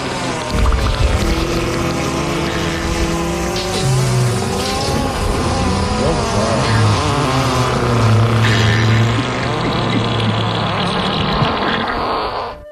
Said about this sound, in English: Can she get a fart montage?